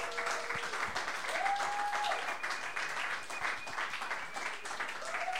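Steady, dense applause from an audience, a continuous wash of many hands clapping at even loudness throughout, with a few faint tonal whistles or cheers rising above it.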